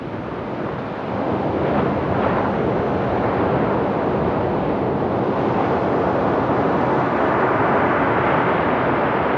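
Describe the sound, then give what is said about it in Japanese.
Waves breaking at Isohama Beach in Yamamoto Town make a steady, dense roar throughout, mixed with low wind buffeting against the microphone; there are no voices. “山本町磯浜海岸です。”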